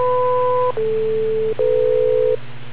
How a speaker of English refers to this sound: Wait for the three beeps.